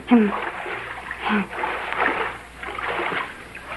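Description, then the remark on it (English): Fish are put into water in a kitchen, making a few soft, irregular splashes and sloshes over several seconds, moderately loud, with faint voices in the background. “We don't have any ice. I must put them in water.”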